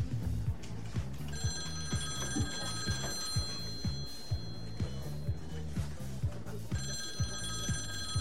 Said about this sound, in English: Those phones just keep ringing.